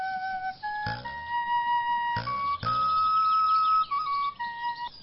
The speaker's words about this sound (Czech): Dostal jsem píšťalu, tak si aspoň zapískám, dokud mám ještě hlavu na krku.